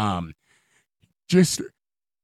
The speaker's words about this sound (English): Pardon me, there's a little yawn there.